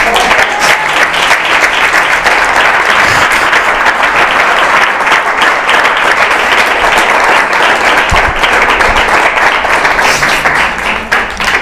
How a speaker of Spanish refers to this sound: ¡Ay, Jesús, maravilloso, maravilloso Jesús! ¿Por qué no le damos un aplauso a Jesús?